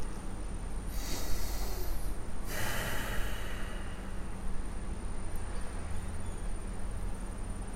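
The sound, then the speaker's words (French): A single deep breath, drawn in sharply and then let out in a long, airy exhale, with a faint steady background hiss and no talking. “Vous pouvez prendre une grande respiration comme moi.”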